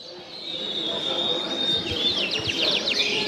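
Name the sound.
canaries singing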